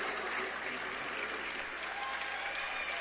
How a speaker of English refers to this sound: And the 5'2 senior gets a big round of applause from her teammates.